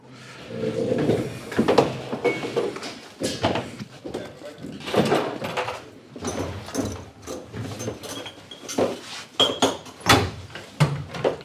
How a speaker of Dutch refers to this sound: Dus, het is 9 uur. Dus de deur gaat dicht. En de container die gaat open.